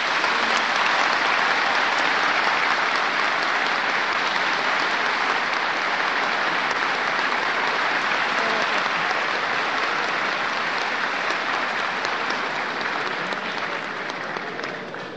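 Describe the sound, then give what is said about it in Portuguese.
Sustained, dense applause from the members of a constituent assembly at the signing of the constitution they drafted, steady and loud for the whole stretch before tapering slightly at the end, with no voices standing out. “eu me permiti, acredito que com o aplauso dos constituintes, escolher a que foi me oferecida pelos funcionários da Câmara dos Deputados.”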